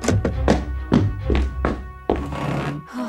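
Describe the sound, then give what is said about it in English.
A run of dull thunks and taps lands roughly every half second, ending in a heavier, rustling thud as someone who ran to school and bolted inside the doors plops down at his desk. No one speaks. “ran as fast as he could to the school, bolted inside the doors, and plopped down at his desk.”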